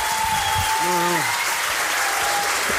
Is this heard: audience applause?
yes